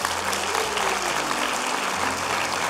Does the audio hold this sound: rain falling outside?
no